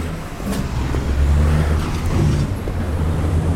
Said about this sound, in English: Across four lanes of traffic.